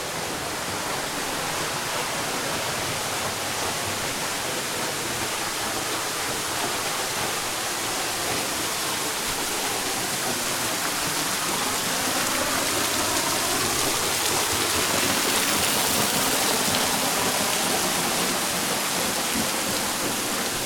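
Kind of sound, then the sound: nature, waterfall cascading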